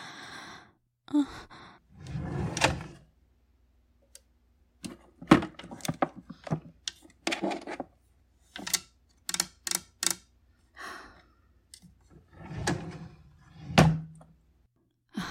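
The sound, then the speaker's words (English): A drawer slides open, followed by irregular clunks, taps and scraping as things inside are shuffled around, with a couple of breathy sighs between the bursts of rummaging. “I'm gonna look at this one drawer and then.”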